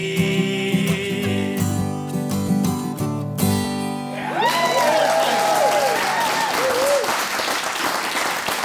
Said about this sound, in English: Give him a special round of applause.